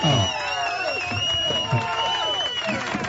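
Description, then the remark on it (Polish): A dense crowd cheers and whoops continuously, with a long shrill whistle riding high above the roar of many voices. The noise stays steady and fairly loud throughout. “Dziękujemy, ale chciałem powiedzieć, że gwizdów tu też było sporo.”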